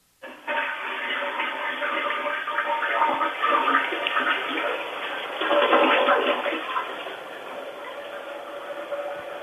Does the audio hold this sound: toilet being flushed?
yes